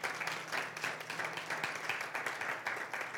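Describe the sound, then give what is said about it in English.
An audience claps their hands in steady, dense applause lasting about three seconds, a continuous crackling patter of many overlapping claps with no talking over it. “And give them a hand clap.”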